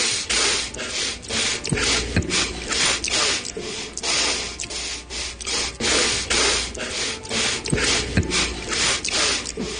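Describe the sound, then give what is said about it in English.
A rapid string of sharp nasal sniffs by Donald Trump during a debate, compiled in a supercut, one after another in a quick uneven rhythm, each a short breathy burst, fairly loud, with no talking. “Just the sniffs. All individual sniffs, no repeats there.”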